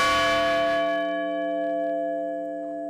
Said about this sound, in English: And in Shanksville, bells and speeches honored the 40 lives lost on United Airlines Flight 93.